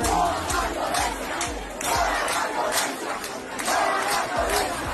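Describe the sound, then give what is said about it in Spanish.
A large protest crowd in the town of El Cobre, Santiago de Cuba, Cuba, chants and shouts "no más violencia" in loud, rhythmic surges, voices swelling together roughly every second or two over a dense, continuous roar of people. “Cubanos desde el poblado del Cobre en Santiago de Cuba se sumaron a las masivas manifestaciones al grito de no más violencia, según reportes en redes sociales.”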